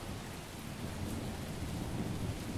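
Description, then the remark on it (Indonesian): Heavy rain pours down without pause in Bandung, Indonesia, a dense hiss with a low rumbling undertone like thunder, continuous, with no voices. “Dinginnya hujan membuat perutku semakin keroncongan.”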